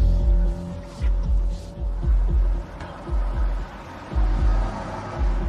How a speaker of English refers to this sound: Grand Cherokee. Well, maybe just a Cherokee, but it's certainly not a Mercedes. A similar-looking SUV drives away, and the guys continue the stakeout.